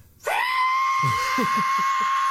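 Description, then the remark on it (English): A voice imitates the screech-whistle of a falling jet: a loud, piercing, steady high tone that holds for about two seconds, with rough breathy throat sounds pulsing underneath. “The sound he just made, does it remind you of anything off the top of your head? No? The screeching sound?”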